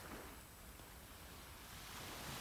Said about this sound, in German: Und je weiter du hier entlang gehst und dem Meeresrauschen zuhörst, desto mehr kommst du zur Ruhe und kommst zu dir. Und du bist jetzt hier am Meer, am Strand